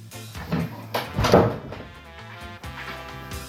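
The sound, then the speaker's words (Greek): A door swings shut with a loud thud around the middle, preceded by softer creaks and knocks, with a steady low hum running underneath throughout. “Αυτό το κλείσιμο πόρτας ήταν αλληγορικό που άκουνα τώρα για να δείξω ότι είμαι και εγώ καλλιτέχνης.”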